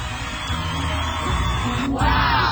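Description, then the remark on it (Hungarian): A large crowd gathered on the ice of the Danube shouts and yells together in a loud, continuous roar of many voices, rising slightly toward the end with a few whoops standing out. “Hatalmas tömeg gyűlt itt össze a Duna jegén, nagyon siessetek a kiabálásra, mert olvad.”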